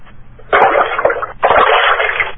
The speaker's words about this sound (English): somebody's maybe washing dishes, and I hear a little bit of slush.